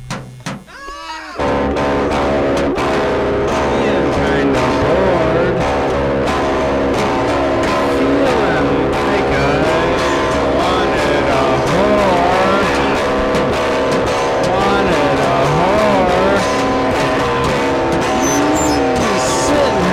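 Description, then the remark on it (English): Steady, loud vehicle noise from inside a moving bus: a constant engine drone with whining tones that rise and fall as it shifts, filling the whole stretch after a brief quieter start. “sitting on the bus.”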